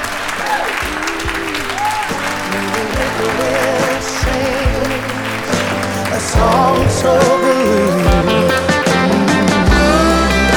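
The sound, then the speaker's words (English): Sustained live audience applause at the end of a live Walking the Floor taping fills the whole stretch, dense and loud, with crowd cheering and music-like tones mixed in, swelling slightly louder toward the end. “Give it up”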